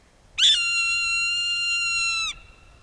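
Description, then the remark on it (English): A single drawn-out, high whistled scream from a Swainson's hawk during raptor migration, loud and clear for about two seconds, sliding slightly downward before stopping abruptly against a quiet background. “During raptor migration, kettles can swell with many different raptor species, like this Swainson's hawk.”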